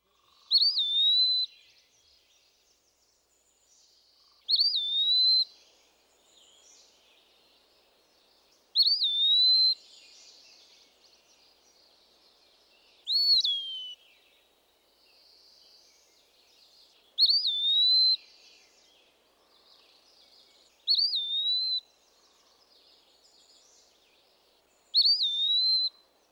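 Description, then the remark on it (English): An Eastern Wood Pewee sings clear, slurred whistled phrases, about seven of them spaced roughly four seconds apart, each rising and falling sweetly against a quiet, empty background. “As with many other woodland birds, the low visual profile of the Eastern Wood Pewee makes its song an especially useful one to know.”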